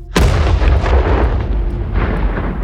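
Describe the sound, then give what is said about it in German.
A huge explosion of a tower, set off by a torch thrown into the gunpowder store in its cellar, goes off with a sudden, sharp bang, then rolls into a sustained roaring rumble that fills the rest of the moment. It is loud, with no voices. “Er wirft die Fackel und der ganze Turm explodiert. Mit einem Knall, den man im ganzen Götaelftal gehört haben muss.”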